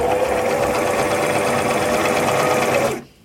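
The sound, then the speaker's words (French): A sewing machine, run by pressing its pedal, runs steadily for about three seconds with a dense, rapid mechanical whir and a faint tonal hum, then stops abruptly. No one speaks. “Pour faire fonctionner la machine, il faut appuyer sur la pédale. Écoutez le bruit qu'elle fait.”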